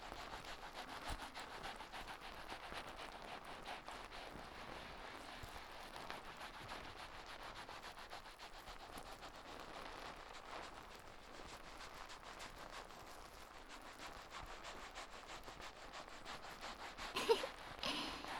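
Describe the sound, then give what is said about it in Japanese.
Shampoo lather squishes and crackles as hair is washed, a steady, dense rubbing texture that runs throughout, with one brief louder scrub near the end and no talking. “泡の音よーく聞いてみてくださいね。”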